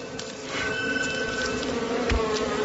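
A dense, steady drone of many wild bees buzzing close by, a continuous humming swarm that holds at an even loudness throughout with no voices.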